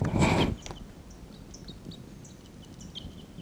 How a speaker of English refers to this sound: Wild birds are calling there. Wild birds are calling a bit loudly now.